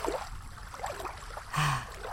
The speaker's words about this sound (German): Das ist der Kienbach in Bayern. So ein ganz kleiner Fluss, der in den Ammersee mündet. Und das ist jetzt unser Sound zum Entspannen.